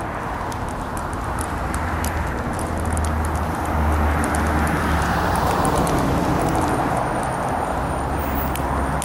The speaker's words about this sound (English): I simply started crossing, because as I approached the corner, the traffic had just started moving from my light, so instead of wasting a cycle, I went ahead and crossed the intersection.